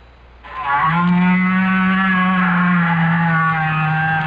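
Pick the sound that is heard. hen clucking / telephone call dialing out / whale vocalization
whale vocalization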